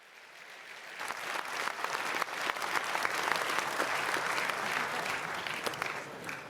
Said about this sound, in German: Das war dein Applaus.